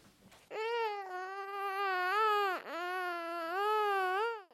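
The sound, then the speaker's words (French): Loud wailing cry of God weeping for the first time in a told story, in two long sustained bursts separated by a brief catch of breath, the pitch wavering and rising, with no talking over it. “Dieu pleure pour la première fois.”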